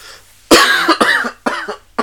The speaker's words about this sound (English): I'm kind of paying for it. So I'm going to try to cough away from the mic so it doesn't distort the audio too much. And I'm sorry if I blow your eardrums out like that.